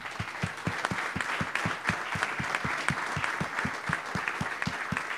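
An audience applauds as a filmmaker is invited onto the stage, a sustained, dense wash of many hands clapping at a steady, even loudness with a faint regular low thump running through it.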